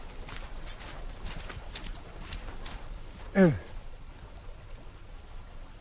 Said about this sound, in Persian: این صدای قدمای زن مشکریم، برادرش و مهرعلی تو گلولای جاده است.